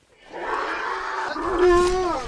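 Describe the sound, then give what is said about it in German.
An orphaned baby elephant at the Reteti Elephant Sanctuary greedily suckles from a milk bottle, letting out a loud, drawn-out moaning wail with a wavering pitch that rises toward the end, with no talking. “Es klingt wie bei einer Raubtierfütterung, aber hier bekommen Babyelefanten ihr Fläschchen. Gierig saugen sie, so wie die kleine Sera.”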